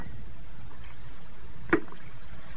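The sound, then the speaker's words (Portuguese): Two Som Rizal antacid and analgesic effervescent tablets fizz in a glass of water, a steady, soft bubbling hiss with one sharp clink or plop partway through. No one speaks. “Ponha 2 comprimidos de som Rizal num copo com água.”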